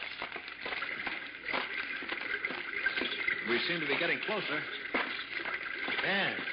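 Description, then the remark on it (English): A steady rush of a small, swiftly flowing underground river fills the background, constant and fairly loud, while a man speaks briefly over it. “Oh, I think I hear running water.”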